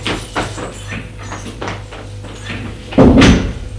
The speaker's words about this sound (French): en entrant la porte d'entrée qui s'est ouverte.